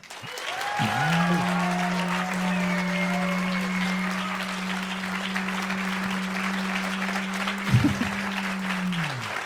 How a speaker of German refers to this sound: Und jetzt euer Applaus für den dänischen Fastfood-Bon.